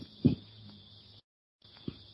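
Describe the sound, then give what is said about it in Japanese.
A cricket trills steadily in a thin, high, metallic tone by rubbing its wings together, breaking off briefly midway before resuming, with a couple of soft low thumps underneath. “あの羽根をこすり合わせたり、ああいう美しい金属音の澄んだ声が出てくると。馴染みな、スズレサセコオロギのようなものを、ミツカトコオロギにもありますけども。”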